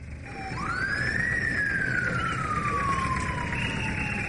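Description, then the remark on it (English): An ambulance siren wails, climbing quickly in pitch and then sliding slowly down in one long sweep, over a steady rumble of traffic and street noise, as the ambulance brings a 66-year-old woman to Yaoundé Central Hospital. “An ambulance has brought a 66-year-old woman to the Yaoundé Central Hospital.”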